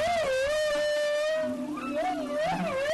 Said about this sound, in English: Okay, so what you heard here was the first theme, or often it's the first theme after the whale dives, and that woo-woo-woo-woo is really what we're calling the first theme.